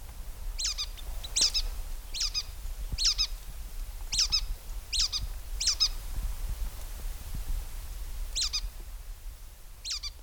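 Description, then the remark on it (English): A red-breasted nuthatch repeats its squeaky, nasal call about nine times at a steady pace, pauses briefly, then calls twice more over a low background rumble. “They have a squeaky dull call, as you can hear in this recording.”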